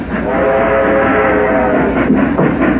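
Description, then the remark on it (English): An express train rumbles loudly and steadily as it approaches and stops, its whistle or horn sounding in sustained tonal bands over heavy low-end mechanical noise, with no voices. “There are no more trains, Grandpa. Is that so? So what do you call that?”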